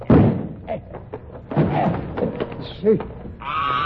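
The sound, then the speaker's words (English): A locked door is busted in with a couple of heavy, loud slams and splintering thuds, followed by startled voices and a brief high-pitched cry. “There's nothing for it but to bust in the door.”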